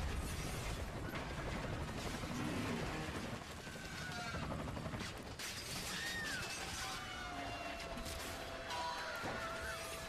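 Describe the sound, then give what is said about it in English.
A small drone strikes a full-size helicopter's tail rotor: a loud, steady mechanical roar full of rattling, crunching impacts and brief rising whines, continuous, with no voices. “we're watching a helicopter, and a drone has just struck the rear stabilized propeller. Just a small drone that hit the back rotor, I guess you call it.”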